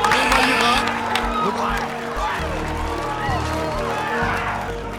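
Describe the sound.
A crowd applauds steadily for several seconds, with cheering and scattered excited voices mixed into the dense clapping, applauding a participant who correctly identified a manometer.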